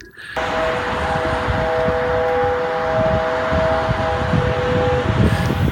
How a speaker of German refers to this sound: Aber es geht tatsächlich um den Kern der Sache, die Daimler-Hupe. Kennt ihr die? Die Daimler-Hupe, die macht so so in etwa.